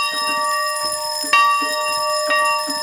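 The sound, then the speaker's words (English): A hand-rung school bell clangs repeatedly in an uneven rhythm, each strike ringing out with sustained metallic overtones that overlap and linger between hits. A woman rings it for four minutes from a bell platform in the courtyard of Mobile County Training School in Africatown, to commemorate the legacy of slavery. “stands in the middle of the courtyard at Mobile County Training School, in the center of Africatown, ringing the school's bell.”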